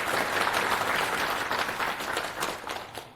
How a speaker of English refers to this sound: So a lot of folks from Berlin are watching us at the live stream, so it would be nice if you can give them a warm applause for all of their work.